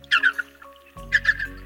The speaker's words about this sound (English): That probably gave it away, didn't it? Of course, it's a dolphin.